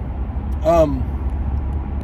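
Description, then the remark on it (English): An undercover police car doing about 80 speeds past on the highway, a brief rising-and-falling whoosh with a tonal whine over the steady low rumble of road noise from inside a vehicle moving at about 60. “This is an undercover cop that's speeding by me. I'm doing 60, they're doing 80.”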